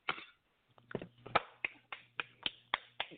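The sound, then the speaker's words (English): A run of crisp finger snaps, about nine of them, landing at a fairly steady rhythm, with a faint low hum beneath some of them and no voices. “I'm going to get some finger snaps in there, too.”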